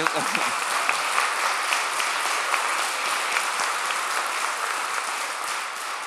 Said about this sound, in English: So we have a total of 18 people who will be received into the church, right? Can I get a hallelujah? Hallelujah. Yes. Amen. Go ahead and clap.